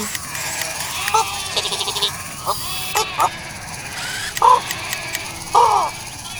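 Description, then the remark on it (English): Running goats bleat repeatedly in short, wavering, nasal calls, several overlapping bursts spread across a few seconds against a steady outdoor background hum. “Is Bo playing with the goats?”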